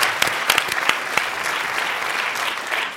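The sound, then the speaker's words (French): Steady, sustained audience applause at the Charles Trenet as the 28th listeners' prize of Le Masque et la Plume goes to Robin Campillo's film 120 battements par minute: a dense wash of many hands clapping with a few sharper claps, loud and continuous with no talking. “Le 28e prix des auditeurs du Masque et la Plume est attribué, j'espère sous vos applaudissements, à 120 battements par minute de Robin Campillo.”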